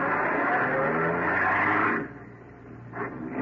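A car engine is started and roars loudly, revving hard for a couple of seconds, then eases off briefly before surging again as the car accelerates away after another car on an empty road late at night.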